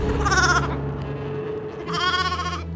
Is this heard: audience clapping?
no